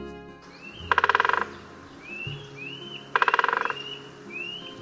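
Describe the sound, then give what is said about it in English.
A woodpecker drums twice on wood, each a rapid, even roll of sharp knocks lasting about half a second, with faint, high bird calls in the pauses between. “Both males and females drum to communicate with each other and mark out their territories.”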